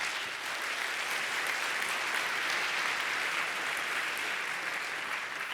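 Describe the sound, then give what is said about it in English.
A sustained round of applause from a sizable audience welcoming a speaker to a talk, steady and dense clapping at an even level for several seconds, with no voices over it. “please give a warm round of applause to Mr. Patrick Stewin”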